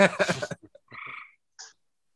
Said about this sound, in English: Ask the local tree frogs enjoying the wetlands I live next to. They like to crawl out of there and go into my swimming pool to eat the bugs.